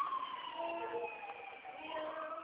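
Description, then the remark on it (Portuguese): A distant emergency siren wails outdoors, its rising and falling tone continuing faintly and steadily through the whole moment, muffled as if heard from indoors. “É uma sirene, eu acho que é ambulância.”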